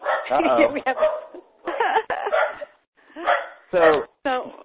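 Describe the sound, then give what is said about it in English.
A dog barks and yips in several short, uneven bursts, moderately loud, with brief pauses between the outbursts, heard on the line of a caller from Connecticut. “Yes, so I was going to say, we have a brave person from Connecticut. Oh, and a dog.”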